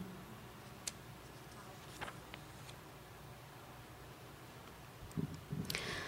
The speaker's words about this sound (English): Flies beat and buzz against dying fluorescence.